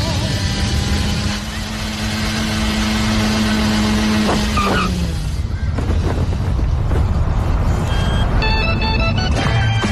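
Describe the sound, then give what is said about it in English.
The engine of a small yellow and red scooter in a pizza radio advert drones loudly and steadily, its pitch shifting about halfway through as it revs and pulls away, with other busy sounds layered underneath. “An advert for Scooter's Pizza, and typically characterized by that yellow and red scooter that would make its way to different destinations”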